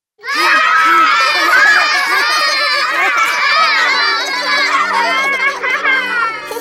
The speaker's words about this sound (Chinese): 今天我去公园里玩了，哇，这里有好多小宝宝在一起做游戏。